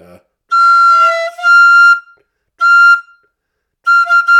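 A wind instrument plays a high, steady F note in three sustained blows separated by short gaps, with a bright, reedy tone and slight wavering in the pitch.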